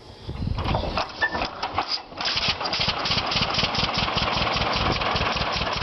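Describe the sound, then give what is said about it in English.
A two-cylinder tractor engine putt-putts steadily in a loud, rhythmic chug, with a brief stumble early before settling into an even idle. No one speaks. “It's the, you know, the putt-putt, the Johnny Popper, the whatever you want to call it. It's an iconic sound, so that's kind of part of the package that you want to present.”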